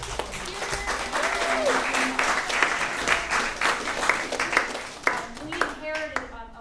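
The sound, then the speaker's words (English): Steady audience applause of thanks for the sound engineer, before a performance of a song, runs for several seconds: a dense, crackling wash of many hands clapping at once, with a few voices and brief cheers rising through it, fading slightly near the end. “Before we play …, I want to extend a big round of thanks to Glenn Mannion, who did all the sound work.”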